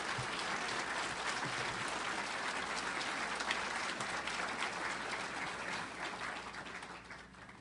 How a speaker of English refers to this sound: Let's give them another round of applause while I collect myself.